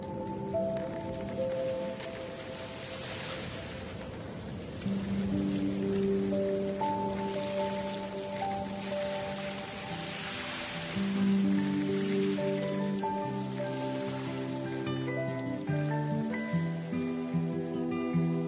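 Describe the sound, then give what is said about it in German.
Steady rain patters on a surface throughout, blended with soft melodic music of sustained, shifting tones. No one speaks; the rain's hiss stays fairly even. “Regen, Wind und Sonnenschein werden in den Texten verarbeitet oder sind selbst zu hören.”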